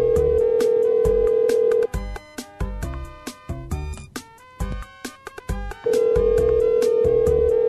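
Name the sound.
phone ringing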